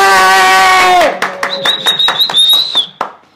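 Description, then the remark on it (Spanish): Scattered clapping from an audience, applauding their sponsor, the executive director of Pisco Snack, breaks out after a sustained harmonic tone fades, with a shrill whistle riding over the claps for about two seconds before it all dies away. “Vamos a darle un aplauso a nuestra patrocinadora, la directora ejecutiva de Pisco Snack.”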